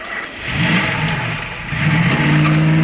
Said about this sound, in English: Saxby drives off in the sedan.